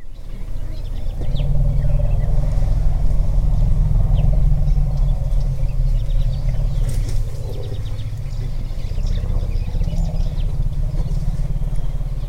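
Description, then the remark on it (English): Deep, sustained rumbling from African elephants when they hear bees, a low throaty drone that swells and holds for several seconds, with faint scattered chirps and clicks above it and no talking. “Let's hear again that rumbling sound the elephants make when they hear the bees.”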